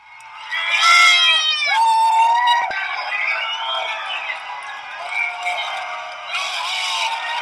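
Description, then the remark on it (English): A large outdoor crowd yelling and cheering after federal agents let the Bundys have their cattle, with overlapping shouts of 'go home' at the federal agents and high whoops rising and falling continuously for several seconds, loud and sustained throughout. “Well, shortly after, the federal agent let the Bundys have their cattle, and you can hear the crowd's response.”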